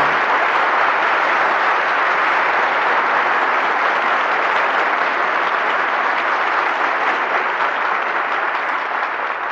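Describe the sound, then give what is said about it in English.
Sustained applause from a large audience at the curtain call after Johnny Apollo, calling stars Edward Arnold, Dorothy L'Amour and Burgess Meredith back to the footlights; dense steady clapping filling the whole stretch at an even, fairly loud level, with no voices over it. “Your applause calls our stars back to the footlights.”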